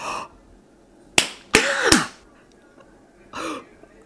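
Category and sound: human body sound, slap on skin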